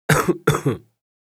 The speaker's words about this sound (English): I have a cough.